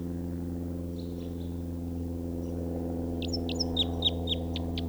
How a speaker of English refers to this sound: Where's that bird again?